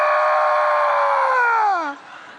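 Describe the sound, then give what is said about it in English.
A voice imitates a woman's bloodcurdling scream: one loud, sustained high-pitched shriek lasting about two seconds before its pitch slides downward and cuts off. “clawing my thigh, screaming,”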